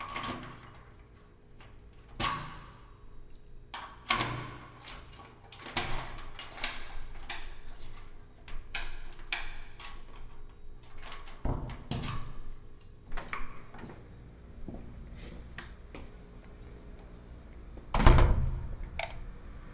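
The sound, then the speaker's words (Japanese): A key works a door lock, with a string of small metallic clicks and rattles close by, then a heavier clunk near the end as the bolt turns. No one speaks. “鍵を閉める。”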